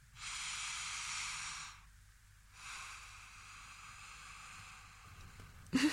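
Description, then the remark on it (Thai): A long, drawn-out breath in, airy with a soft hiss, followed after a short pause by a second, slightly quieter breath. No one speaks. “ยังไงลองบอกสิตรงไหนเข้าตรงไหนออก ตอนนี้เข้าค่ะลากยาวมากตอนนี้ออกตอนนี้เข้าตอนนี้ออกแต่ลมหายใจสั้นลง”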